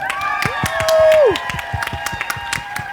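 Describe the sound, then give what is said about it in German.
A live crowd on the Augustusplatz in Leipzig cheers and claps, with dense applause crackling throughout, a loud sustained whoop rising over the noise in the middle, and scattered voices shouting underneath. “Und das war unser Publikum.”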